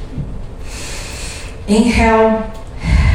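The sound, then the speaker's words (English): Audible breathing: a long airy inhale, then a drawn-out exhale with a slight voiced, sighing tone, and the start of another breath in. There is no talking. “Inhale and exhale. Inhale and exhale.”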